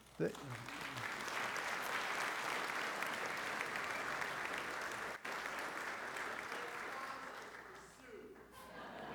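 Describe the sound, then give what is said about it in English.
A room full of people at Strongsville United Methodist Church breaks into loud, sustained applause for a retiring pastor's 50 years of marriage, steady clapping that holds for several seconds before tapering slightly near the end, with faint voices underneath. “Well, it's funny that nobody clapped about serving churches for 35 years, but for being married,”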